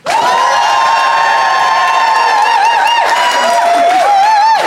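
A Phoenix studio audience, voting by applause, erupts in loud, sustained cheering and whooping, with applause mixed into the roar of many voices holding high, sliding shouts for several seconds.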